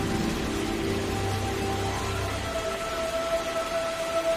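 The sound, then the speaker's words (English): Steady rain pours down over vines growing on trees in a dense, continuous hiss, water dripping off the tips of the leaves, with a low rumble fading out partway through and a faint thin tone lingering underneath. No voices are heard. “The rain pours over the vines growing on the trees, water dripping off the tips of the leaves.”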